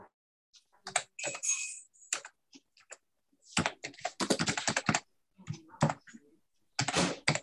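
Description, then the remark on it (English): Rapid, irregular clatter of keys on a computer keyboard during an online meeting, bursts of hurried typing with brief pauses, fairly quiet, with no talking. “I can hear frantic typing here going on.”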